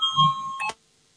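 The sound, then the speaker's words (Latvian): A voting bell in the Saeima, Latvia's parliament, sounds once before a vote, a steady electronic ringing tone lasting under a second with faint low rumble beneath, then cuts off abruptly into silence. “Lūdzu, zvanu, balsosim par septīto.”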